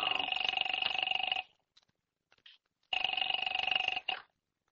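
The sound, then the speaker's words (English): A telephone bell rings twice, each burst a harsh, steady trilling jangle lasting over a second, separated by a short silence. No one speaks over it. “Where's the phone? In the hall.”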